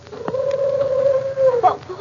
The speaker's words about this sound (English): What was that, Jack? Just a hoot owl, Betty.